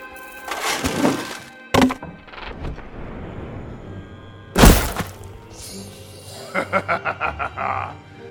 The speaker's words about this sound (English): He loosed yet another arrow as Cormac heaved a weapon rack over the crenellations. The heavy wooden framework slamming down hard into the undead below. It trapped a small gathering under its bulk, smashing their broken bodies to pulp.